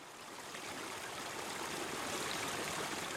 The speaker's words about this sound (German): Wir stehen hier am rauschenden Bach, am sogenannten Eckerlochstieg. Der Eckerlochstieg, der steilste und dennoch beliebteste Wanderweg hinauf auf den Brocken. Ein Bach, die schwarze Schluftwasser, plätschert im Hintergrund.